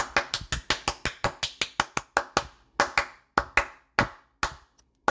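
Crisp, close hand claps ring out alone, about twenty in quick succession, coming steadily at first and then slowing into sparser, more spaced-out claps with brief pauses.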